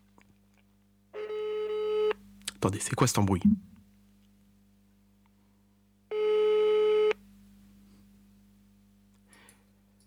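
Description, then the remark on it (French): Two steady electronic telephone busy-signal tones on an outgoing call, each lasting about a second and separated by a long pause, sound over a low constant hum, with a man briefly speaking between them. “Je vais l'appeler sur le téléphone.”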